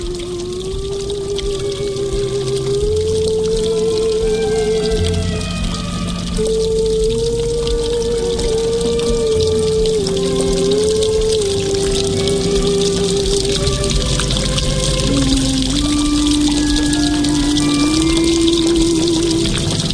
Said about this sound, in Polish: Niech pani podniesie kołnierz, bo znowu pada.